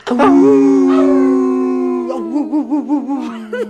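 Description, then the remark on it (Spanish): A person lets out one long, loud howl, holding a steady tone before it breaks into a wavering, warbling finish, like a voice imitating a wolf. “Pues que aullen también, ¿eh? Para que vean qué liberador es.”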